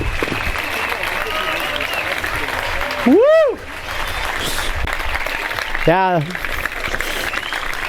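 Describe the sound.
Steady, dense applause from an audience after a presentation on bioplastics fills the whole stretch, with two short vocal whoops or cheers rising above the clapping partway through.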